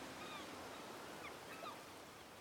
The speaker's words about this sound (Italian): Oltre il molo, ecco le prime onde, e vento a sufficienza per aprire le vele. Mani alle scotte, si naviga!